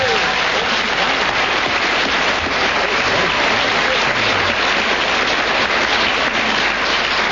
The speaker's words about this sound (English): Applause with 12 seconds starting from now. The better the applause, the louder it is.